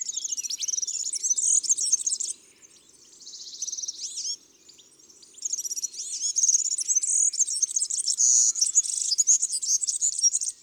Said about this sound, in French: Le serin cygni et son gazouillis grinçant et très rapide.